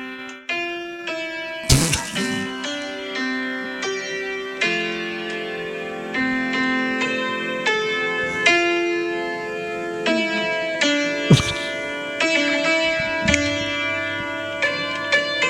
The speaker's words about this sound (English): I love when an old piano sounds like chimes.